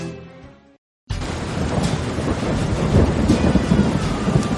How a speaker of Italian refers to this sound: Mannaggia come piove